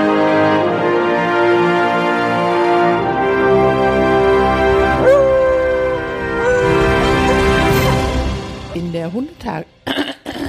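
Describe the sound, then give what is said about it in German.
A dog, Lulu, howls loudly in one long, sustained, wavering cry that bends in pitch, then breaks into a few short, choppy sounds at the end. “Lulu heult ein letztes Mal in diesem Jahr.”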